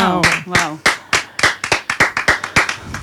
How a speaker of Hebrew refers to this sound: וואו. מחיאות כפיים סוערות, ממש. אפשר סוערות, אפשר פחות.